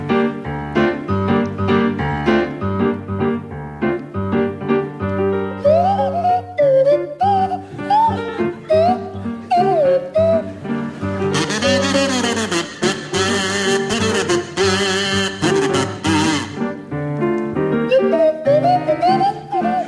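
Graham Garden plays a swanee whistle that slides up and down through a jazzy tune over steady instrumental backing, then Barry Cryer's loud, buzzy kazoo takes the melody before the whistle's gliding notes return.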